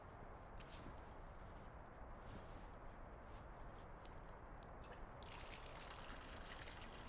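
Warm water runs steadily into a bathtub as a bath is drawn, a continuous rushing splash that brightens and gets a bit hissier near the end. No one speaks.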